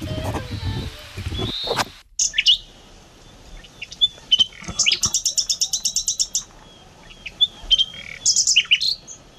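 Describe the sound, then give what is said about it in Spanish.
A nightingale sings in varied bursts: high whistles and sharp chirps, then a fast run of repeated notes, after a brief low rumble at the start. “Es un ruiseñor. Esto es un ruiseñor.”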